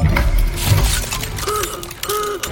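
The crank of a Storymaker contraption is pulled, setting off a dense clattering, ratcheting rattle, followed by two short squeaky mechanical whines as the machinery turns. No one speaks.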